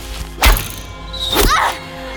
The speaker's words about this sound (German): Und der Pfeil hatte die Barriere tatsächlich durchdrungen, als sei sie nicht vorhanden.